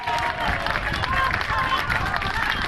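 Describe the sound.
A large crowd from a whole neighbourhood of A Coruña applauds a family doctor on her retirement, a dense, continuous patter of many hands with cheering voices and a few whistle-like tones rising through it, holding an even loudness throughout.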